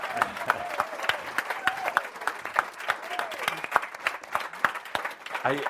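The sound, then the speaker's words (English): A crowd applauds for the entire staff working on the project, steady dense overlapping hand claps with sharp individual smacks standing out, while voices murmur and call out underneath throughout the few seconds. “So one more time, a huge applause to the entire staff and everybody working on it.”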